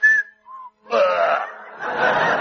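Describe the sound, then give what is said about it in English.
Two short whistled notes, a higher one and then a lower, softer one, clear, presented as the two notes Rachmaninoff whistled on his deathbed as a clue to his final piano concerto, followed immediately by a louder burst of noisy, breathy commotion. “He left just one clue to his final piano concerto in the shape of two notes whistled on his deathbed.”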